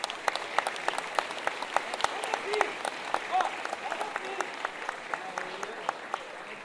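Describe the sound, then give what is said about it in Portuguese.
An audience at a band's concert applauds steadily to welcome guest singers from a band of Santa Catarina, dense overlapping claps forming a continuous crackle with a few sharper individual claps standing out, sustained at an even level for several seconds. “Uma salva de palmas.”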